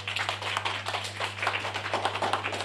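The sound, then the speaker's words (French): Sustained applause from a group, many hands clapping in a dense, crackling patter at a fairly even level, with a low steady electrical hum running underneath. “On peut les applaudir hein, derrière.”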